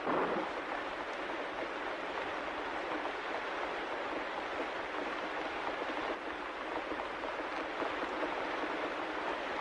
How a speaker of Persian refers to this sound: دوباره بارون تندی میگیره.